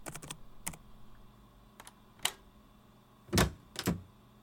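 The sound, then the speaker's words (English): A door is unlocked and opened: a quick run of small mechanical clicks and rattles, then two louder, heavier clunks of the latch and door near the end. No one speaks. “Dude, come on, unlock your door.”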